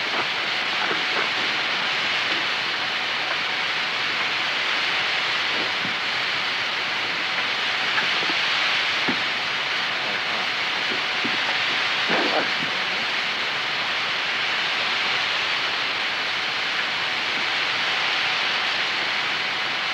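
A steady, loud rushing roar of an old freight train moving along tracks, with scattered clanks and clicks breaking through the hissing rumble. It continues unbroken, with no voices.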